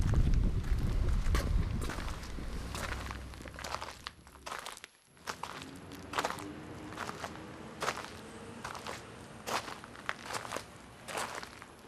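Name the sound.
footsteps walking outdoors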